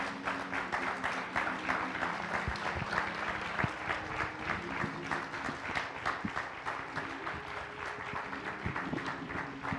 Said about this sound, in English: And so without further ado, with your prayers and by the aid of the Holy Spirit, I want you to welcome with a hearty hand clap of praise,